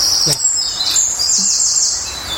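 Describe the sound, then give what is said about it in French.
A bird sings a high, bright, fairly long phrase of about 4-5 seconds with a rapid trill in the middle and a sharp closing note, clear over a faint background hiss. “Il y a une phase de tri au milieu.”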